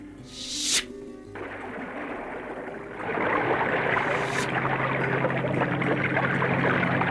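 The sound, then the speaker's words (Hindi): A brief airy whoosh gives way to a steady rush of a stream of water gushing from the ground, brought forth by an arrow shot into the earth, that swells louder after a few seconds and keeps flowing continuously and full, with no voices. “अब तो प्यास बुझ गई, तुम थोड़ा टहल लो, तब तक मैं भी इस जलधारा में अपने बाल धो लेती हूँ।”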